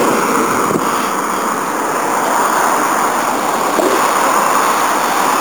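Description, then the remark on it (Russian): A steady, loud roar of wind blowing out toward the ocean along an open shoreline, constant and unbroken throughout, with a faint wash like surf blended into the rushing noise and no voices. “Они пылят, а ветер сдувает все в океан.”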